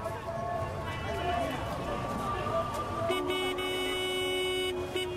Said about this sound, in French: La place Tahrir, remodelée par le général Al-Sissi, laisse entendre le battement d'une ville qui vibre au son des moteurs et de la pollution incessante.